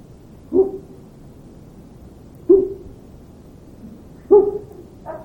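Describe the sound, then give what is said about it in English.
Low, hollow owl hoots sound out one at a time, about two seconds apart, with a fainter call starting just as it ends. There is no talking, only a soft background hiss. “Make him react to the owl hoot.”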